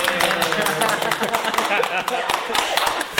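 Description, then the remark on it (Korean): A crowd at a church dinner gathering applauds steadily for about three seconds, a dense, continuous patter of many hands clapping at once, with some voices mixed into the noise. “예, 모두 반갑습니다. 박수.”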